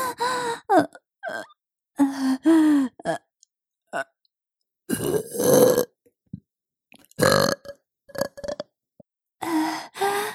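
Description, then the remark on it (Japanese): A series of loud burps in irregular bursts with brief silent gaps between them, some drawn out and croaky, others short, with faint breathy sounds in between and no speech. “ゲップ好き。”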